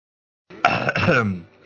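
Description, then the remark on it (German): A single throat clearing, fairly loud, a rough voiced rasp lasting about a second that fades into a low hum, with no talking around it. “Räusper.”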